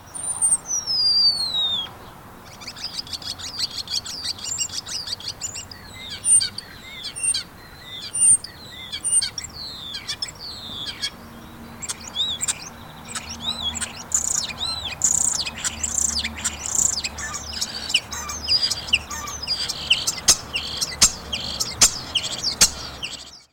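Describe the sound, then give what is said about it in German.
A common starling sings a long, busy medley of whistles, clicks, rattles and calls imitating other birds and ambient sounds, fairly loud, with rapid repeated phrases and no talking. “Er kann andere Vögel und Umgebungsgeräusche perfekt nachahmen und in seinen Gesang einbauen.”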